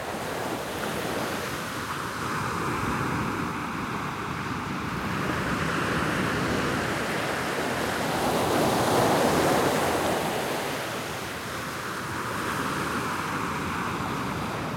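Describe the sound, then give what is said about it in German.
Ocean waves wash steadily against the shore while wind rushes past, swelling and easing in broad surges over a constant roar, with gusts buffeting the microphone and no voices. “Die Weite der belebten Wasserfläche vor den Augen und der Wind, der über das Gesicht streicht und Wasser und Luft miteinander verbindet.”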